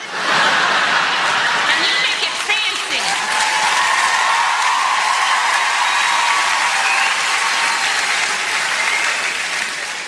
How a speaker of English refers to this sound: All those women clapping, they meant yours.